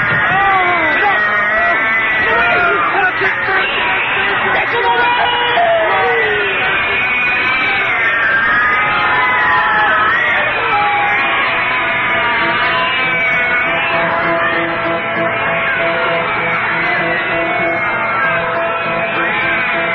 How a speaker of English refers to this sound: Mice fear cats. If the cats are of this world, these are not. They're breaking in.